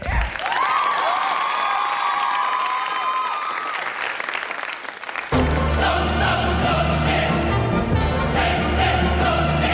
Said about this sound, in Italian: Voliamo alto con il nostro uccellaccio, ma intanto un applauso alle liste d'attesa italiane.